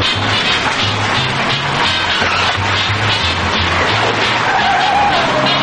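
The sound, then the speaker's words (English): A car engine revs hard while tires skid and squeal continuously, a loud, gritty screech lasting several seconds as the car turns around. “The car turns around.”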